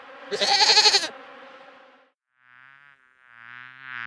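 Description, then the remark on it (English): A harsh, buzzing burst opens, followed by two wavering goat bleats, the second longer and louder, with no talking. “A goat in a blue coat sees them.”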